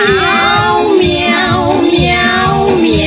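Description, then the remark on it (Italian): Sung, meow-like cat calls stretch and glide over a steady musical backing in an Italian song, loud, with voices singing "miau" in imitation of cats rather than real animals, running continuously throughout. “Detto fatto coi gattini un quintetto organizzò.”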